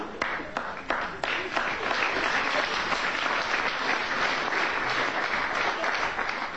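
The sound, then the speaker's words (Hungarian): Steady applause from a large theatre audience as a performer steps onto the stage, a dense wash of many hands clapping at once, holding an even loudness throughout with a few sharper claps standing out near the start. “A közönség tapsolni kezd.”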